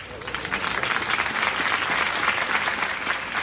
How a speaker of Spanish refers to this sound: Son los aplausos, hace solo unos minutos, a la salida de ese funeral que acaba de oficiar el obispo de Cádiz y Ceuta, Monseñor Rafael Zornoza.